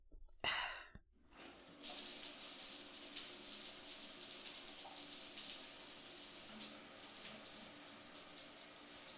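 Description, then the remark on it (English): A short breathy sigh, then a shower switches on and water runs in a steady, continuous hiss until the end, with no talking. “I'm not gonna pass out in the shower.”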